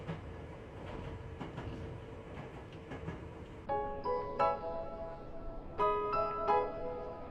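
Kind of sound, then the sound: vehicle, train running on rails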